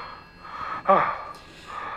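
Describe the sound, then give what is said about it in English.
A single sharp, heavy breath or gasp from a caller on a telephone call to a hotel cuts through a steady, thin telephone-line hiss, loud for a moment before the faint line noise carries on alone. “You're one of those heavy breathers, because if you are...”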